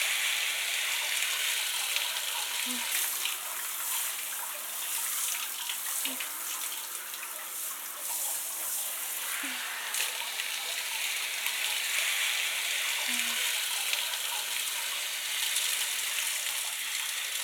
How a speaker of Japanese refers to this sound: このままお湯で洗い流していきますから、目を開けないようにしてくださいね。